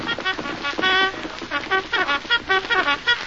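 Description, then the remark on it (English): A bugle blares a brisk reveille call at a camp, a quick run of bright, brassy notes in a repeating rhythm, loud, with no talking over it. “Reveille. The camp will be awake very soon.”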